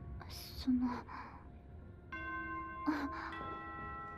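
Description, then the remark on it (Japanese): A few soft breathy gasps and sighs give way to a school dismissal chime, two sustained bell-like notes sounding in turn and ringing on steadily at moderate volume. “下校チャイムの予定ってことは、先輩、もうバスが来る時間じゃないですか？”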